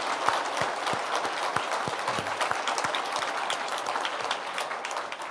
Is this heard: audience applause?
yes